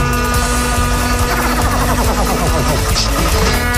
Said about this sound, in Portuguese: É, buzina, liga o carro aí